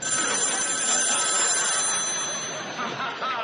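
household object, telephone bell ringing

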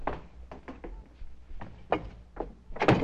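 household object, door being closed

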